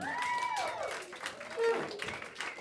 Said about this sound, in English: Everybody, round of applause for